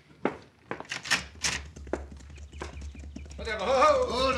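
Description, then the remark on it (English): Horses' hooves clip-clop in uneven, clattering steps over a low rumble as riders arrive, then a brighter tonal burst rises at the very end. “Get down off your horses and come in.”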